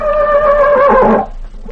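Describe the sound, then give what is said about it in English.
A horse named Tarzan neighs once in a loud, harmonic whinny that holds a steady pitch before breaking into a rough, sputtering end, lasting just over a second with no voices. “Tarzan always was a smart horse.”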